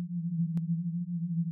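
Binaural beats form a steady, low-pitched humming drone that gently wavers in loudness, with a single brief click partway through and no voices.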